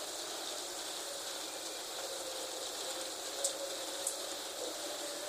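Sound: rain falling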